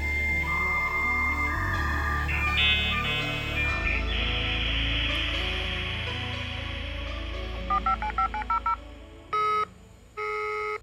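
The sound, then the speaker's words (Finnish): Dial-up modem connection sounds: warbling, layered electronic tones and hiss, then a quick run of touch-tone dialing beeps and two longer, steady beeps near the end. No voices. “niin ehkä sitten tämä modeemiääni on tämmöinen niinku turva-ääni, jota voisi kuunnella sitten putkeen ja putkeen.”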